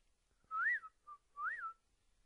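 Someone whistles to imitate a tea kettle: two clear, swooping whistles that rise and fall, with a short chirp between them, heard alone with no talking.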